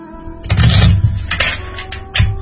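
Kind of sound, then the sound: household object, tarot cards being shuffled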